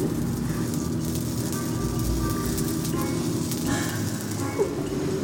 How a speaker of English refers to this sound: I'm putting the broccoli on the griddle and it's sizzling. It's sizzling. This is real cooking.